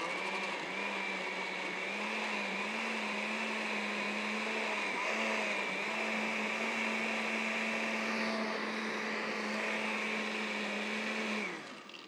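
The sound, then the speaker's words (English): A blender, blending a drink with lettuce, runs steadily for about eleven seconds with a loud, constant whine and a low droning hum, then winds down at the end. No one speaks. “There have been a couple times we've been on vacation when I couldn't find a blender.”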